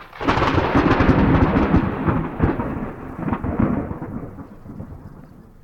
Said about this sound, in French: Aussitôt le frère préposé à cet effet, imite une seconde fois le bruit du tonnerre et le vénérable maître donne au candidat la seconde maxime.